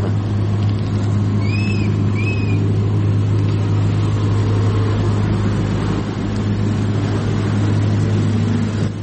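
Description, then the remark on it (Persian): A car with Russian number plates, driven by a Tajik driver stuck at the Uzbekistan border with a load of food products, idles steadily with a constant low hum, fairly loud throughout, while a couple of faint birdlike chirps briefly sound near the start. “نوار این راننده را با هم ببینیم. ماشین نمره روسیه.”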